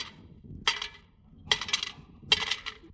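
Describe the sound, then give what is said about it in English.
Three separate bursts of coins, 40 cents in all, clinking and jingling as they drop into a collection kitty, each a bright metallic clatter that rings briefly, spaced about a second apart with no talking. “You put 40 in the kitty.”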